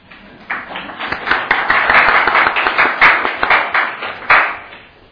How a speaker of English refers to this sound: Want to give him a little clap?